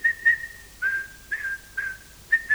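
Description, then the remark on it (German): A steady, high-pitched whistle sounds alone, whistling the message SOS in a rhythmic pattern of short and longer bursts, like Morse code dots and dashes, all on one unchanging note. “ich kann diese Botschaft SOS, Strich, Punkt, Punkt, Punkt, Strich, Strich, Punkt, Punkt, aufschreiben auf Papier, nicht wahr?”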